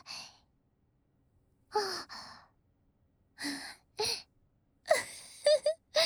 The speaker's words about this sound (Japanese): おっきなあくび。そりゃそうだよね。あれだけたくさん動いてさ、おいしいものたくさん食べて、ふかふかソファーでゴロゴロしてたら、どうしたって眠くなるべさ。